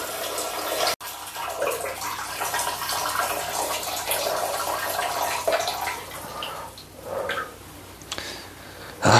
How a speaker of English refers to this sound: See, now we're having a conversation about you pissing, and I can hear it splashing like a fucking idiot.